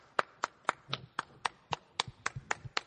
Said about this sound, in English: He's clapping for himself. I'm clapping and for myself.